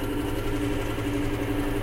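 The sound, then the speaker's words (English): A tractor engine idles steadily, a low, even rumble with a constant throb and no change in pace or volume, with no talking over it. “I go to fill up the tractor with diesel.”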